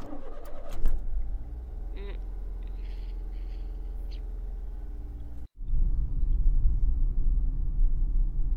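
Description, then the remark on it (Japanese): A car engine rumbles low and steady after a few clunks, then the roar swells louder as the vehicle pulls away and keeps driving, with faint chirps in the background. “はあ、もういいからさっさと車出して。”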